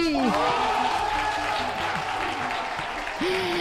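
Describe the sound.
An audience claps steadily in a dense, continuous wash of applause, with a few voices and cheers rising over it before it fades slightly.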